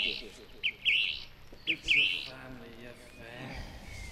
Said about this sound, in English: Just open the door or the window of our shed and a little bit of bird song. Come in.